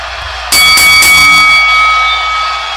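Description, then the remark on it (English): A boxing ring bell clangs three times in quick succession to start a boxing match, loud and bright, its high metallic ring sustaining and slowly fading over a couple of seconds, with no voices. “Okay, here's the bell.”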